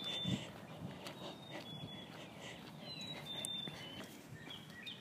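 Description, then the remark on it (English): Chickadees and other birds call faintly, scattered high chirps and thin whistles over a soft, steady outdoor rumble with no one talking. “Wanted to capture the sounds of all the birds I'm hearing. I think Scott says those are chickadees.”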